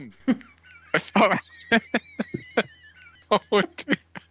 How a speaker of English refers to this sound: I'm sorry, I don't know what that was. It was like a sort of cough and a... Oh, dear. A cough sorry. And a sneeze at the same time.